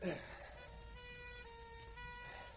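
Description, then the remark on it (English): An ambulance carrying four kids sounds a steady, sustained siren wail at moderate volume throughout, with a brief burst of noise at the very start and a low rumble underneath. “4 kids in that ambulance.”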